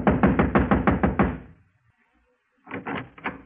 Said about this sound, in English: Across the hall, the door to apartment number 4 said manager. I walked over and started knocking again.